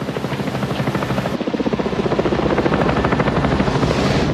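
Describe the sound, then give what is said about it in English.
An FBI helicopter flies overhead in the rain, shining its spotlight on a man in the water amid flaming boat wreckage, its rotor blades chopping in a steady, rapid thump with a loud engine whine, growing fuller and more intense after the first second or so. No one speaks. “The helicopter captures him in its spotlight, a tiny figure surrounded by flaming wreckage.”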